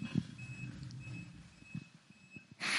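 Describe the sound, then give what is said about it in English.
A vehicle's reversing alarm beeps steadily over a low engine rumble, ending in a sudden burst of hissing noise. “Beep, beep, beep.”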